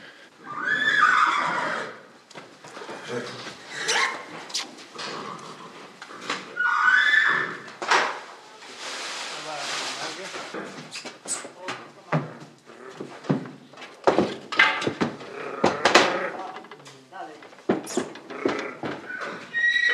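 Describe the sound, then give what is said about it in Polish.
A mare brought in by a farmer is led onto a scale and weighed; she whinnies in short bursts near the start, middle and end, while hooves clop and knock irregularly on a hard floor throughout, fairly loud, with no talking. “To jest klacz Kara. To jest kasztan, to jest kary.”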